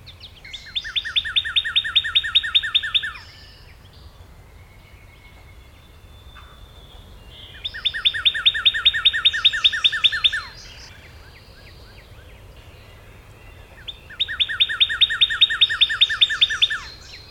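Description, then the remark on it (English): A northern cardinal sings at dawn from a low limb right above the bushes, three loud phrases, each a quick run of repeated slurred whistles, separated by pauses of several seconds with only faint background hush between. “In my neighborhood, it's all Redbird. He's on a low limb right above the bushes.”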